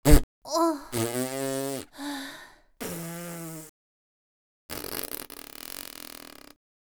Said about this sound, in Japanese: そう、おならよ。このくっさいおなら。私こうやってブーブーこいてる通り、おならがよく出る体質なの。いやん、話してる途中もお構いなく出るんだから。